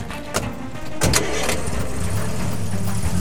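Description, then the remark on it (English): A car engine cranks with a few sharp clicks and catches, then settles into a steady, rising hum as the vehicle pulls away, fairly loud with no talking. “Stop this car.”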